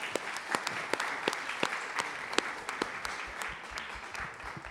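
A crowd applauds steadily, many hands clapping in a dense, sustained patter with sharp individual claps standing out, moderately loud and without voices throughout.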